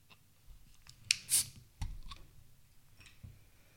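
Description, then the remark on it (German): A bottle of Frastanzer Bio, an organic Pils beer from Frastanz in Vorarlberg, Austria, is opened: a sharp metallic click, a brief hissing pop as the cap comes off, then a dull knock, with no voices. “Okay, dann mache ich mal auf.”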